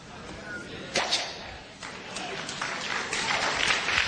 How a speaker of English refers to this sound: Everybody clap on that one.